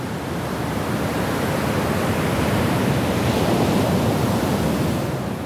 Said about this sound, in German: Unaufhörlich rauschen die Wellen an den Praia Grande, den großen Strand bei Sintra, nordwestlich von Lissabon gelegen.